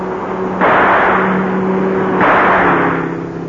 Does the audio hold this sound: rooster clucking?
no